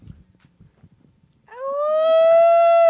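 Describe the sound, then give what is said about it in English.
After a quiet stretch of faint murmurs, a woman imitating a wolf gives a loud, sustained howl that starts abruptly and holds a steady, rising pitch to the end. “That was a feminine howl.”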